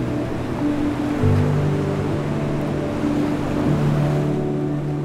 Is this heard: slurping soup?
no